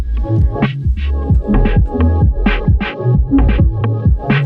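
A techno track plays with a heavy, throbbing bass pulse and a steady driving beat, bright hi-hat bursts recurring on top and a sustained synth tone running through, loud and continuous throughout.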